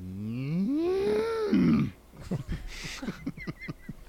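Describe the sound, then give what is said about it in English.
A person gives a drawn-out, rising-and-falling imitation of a cow's moo for about two seconds, loud, followed by a stretch of ordinary talking. “That's such a good that's cow noise.”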